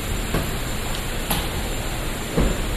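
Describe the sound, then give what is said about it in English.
Two double doors being opened into a tape duplication room, heard as three soft clunks spaced about a second apart over a steady background hiss, with no one speaking. “We're going to open 2 double doors and go into tape duplication.”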